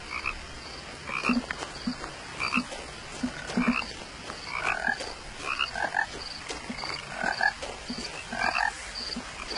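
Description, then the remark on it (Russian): Sand frogs croak in a steady chorus, short rasping calls repeating in irregular bursts over a faint constant hiss, with no voices present. “Песочные лягухи.”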